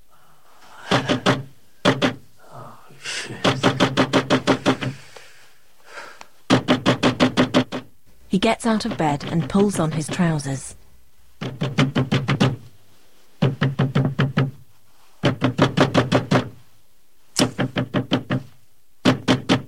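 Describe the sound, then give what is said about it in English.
Loud, insistent knocking on a front door at night comes in repeated clusters of rapid raps separated by short pauses, with a man briefly speaking partway through. “Later, Dave's in bed when he's woken by the knocking.”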